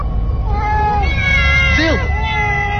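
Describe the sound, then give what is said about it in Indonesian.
Several cats meow loudly in a corridor with drawn-out, wavering cries that overlap, one sharp rising yowl standing out, over a steady low rumble of background noise with a reverberant, echoing quality. “Dan semakin mendekat, suara kucing-kucing itu pun semakin kencang menggema.”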